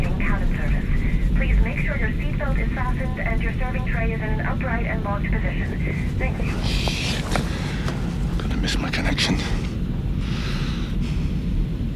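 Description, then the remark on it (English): A steady low engine drone fills a crowded, packed full airplane cabin, with overlapping murmured voices and occasional brief hissing rustles over the constant hum. “Set it yet another packed full plane.”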